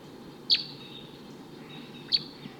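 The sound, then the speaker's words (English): A wild male bird, perched in the top of a tall eucalyptus tree above test birds, gives two short, high-pitched tooping notes, about a second and a half apart, over a steady low rushing background with no voices. “It's been about 5 minutes since those wild birds showed up, and there's a wild male here still tooping up in the top of a tree, occasionally giving flight calls, and doesn't want to come down.”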